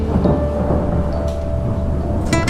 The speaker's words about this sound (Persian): یادم اومد تو بارونو دوست داشتی، یه دفعه بارون زد.